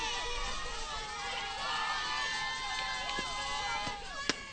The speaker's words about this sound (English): Hear the cheers of the Chartiers Houston faithful here at Peterswood Park.